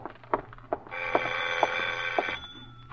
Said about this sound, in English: Then, just as you finish putting on your lipstick, the doorbell rings again.